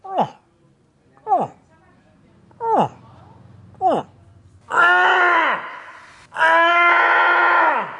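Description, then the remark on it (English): A person imitates a rutting moose call, one of the human-generated moose calls heard around a valley before open season: four short, falling grunting calls spaced about a second apart, then two long, drawn-out nasal moans that slide downward, loud and harmonic-rich. “Here's what some of the various human-generated moose calls heard around the valley sounded like.”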